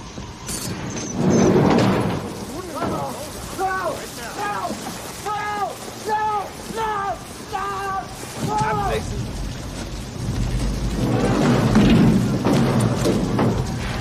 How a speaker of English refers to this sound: At a train, they haul a boxcar door open.